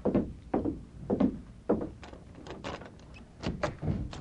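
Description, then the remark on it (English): A hotel room door is handled at midnight: several dull, evenly spaced thumps give way to sharper latch clicks and rattles as it swings open. No one speaks. “Stand to one side, Tonto, and cover me while I open the door.”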